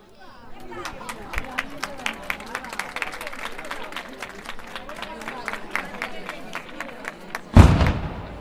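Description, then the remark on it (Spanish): A rapid, steady string of sharp gunpowder firecracker pops crackles over a murmuring festival crowd at the Día de la Virgen de las Mercedes village festival in Puebla de Soto, then ends with one louder, heavier bang. “El trueno, la pólvora.”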